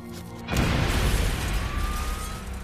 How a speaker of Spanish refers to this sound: La explosión hirió de gravedad al doctor Epstein.